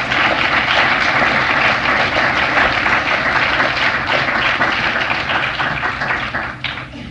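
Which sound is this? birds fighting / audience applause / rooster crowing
audience applause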